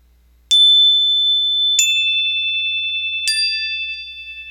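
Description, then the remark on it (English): Three bright chime strikes ring out about a second and a half apart, each tone sustaining and overlapping the next as they fade slowly, with no voices present. “The next time you hear the chime, you'll pick up pencil and paper and follow these instructions.”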